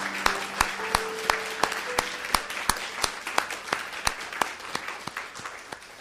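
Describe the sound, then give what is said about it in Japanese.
A church audience, after a prayer, breaks into steady applause for the Lord, many hands clapping in a dense, bright patter with sharper individual claps standing out, holding strong for several seconds before easing slightly toward the end. “主に大きな拍手をあげましょう。”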